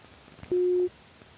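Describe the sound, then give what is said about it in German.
A single steady telephone line tone sounds for about a third of a second while calling a mobile phone, a clear mid-pitched beep standing out against faint background noise, with no talking. “Ich rufe dich jetzt mal auf dem Handy an.”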